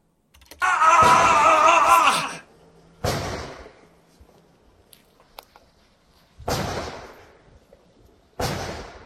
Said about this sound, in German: Aber so funktioniert das. 3 schnelle Schüsse. Bei der Bundeswehr lernt man 2 schnelle Schüsse. Also Doppelschuss quasi. Hier ist es eigentlich ein Dreifachschuss und dann ein gezielter Schuss.